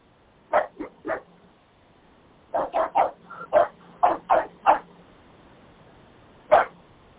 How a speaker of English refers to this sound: Play, later. Play. You always like to play. I know you're a young dog, you love to play.